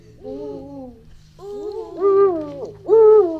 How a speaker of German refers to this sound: Und so klingt der Uhu. Ich höre, wie der seinen Namen sagt. Uhu.